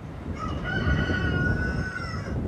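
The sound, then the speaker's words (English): A rooster crows one long, drawn-out cock-a-doodle-doo, its harmonic call rising and holding for about two seconds over a low rumbling background, at a modest single-family home just outside Douglas where chickens, cows and goats are raised. “She raises cows, chickens, and goats, and grows vegetables in the summer.”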